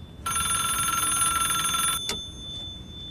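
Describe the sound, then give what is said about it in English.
A standalone public payphone with no hood or box around it rings in one loud, rapidly trilling burst lasting almost two seconds, then stops abruptly with a sharp click as a gloved hand picks up the receiver. “It's a standalone phone with no hood or box around it.”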